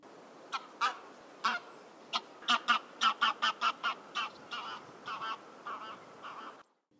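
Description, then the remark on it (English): A goose honks repeatedly, about fifteen loud, nasal calls in an uneven rapid series, some clustered in quick bursts, over a steady low background hiss that cuts off at the end. “the last thing he expected to attack him while he was out in the preserve was a fucking goose.”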